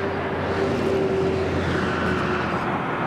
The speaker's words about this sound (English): That's Interstate 75, which is passing right over us as we set out in our boats from Silver Lake on the Hernando Sumter County line.